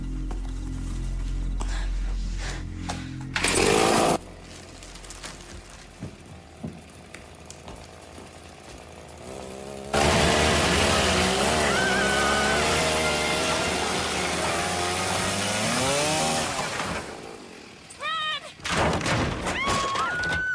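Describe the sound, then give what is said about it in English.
A chainsaw idles with a low rumble and gives a brief roar, then revs hard for several seconds as it cuts through a wooden door, its pitch wavering, before dropping back to short bursts. “You went Texas Chainsaw on that door.”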